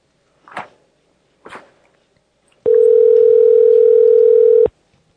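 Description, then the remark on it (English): Two short clacks, like a handset being handled, are followed by a loud, steady telephone dial tone that hums at one unbroken pitch for about two seconds before cutting off abruptly, as an outgoing call is placed back to HSN. “Are we calling back HSN?”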